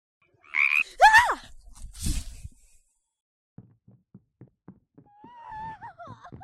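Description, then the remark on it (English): A big frog croaks loudly in a few harsh, wavering bursts, then gives a run of short low clicking pulses and a warbling trill, with no talking. “Big darn frog!”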